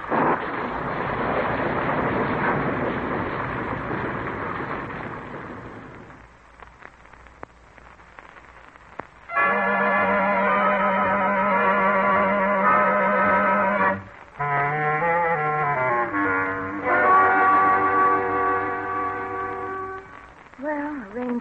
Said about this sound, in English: Oh, here comes the rain. And it's a-coming down by the bucketful. If it keeps up like that, they'll have to put water wings on them there Bronx.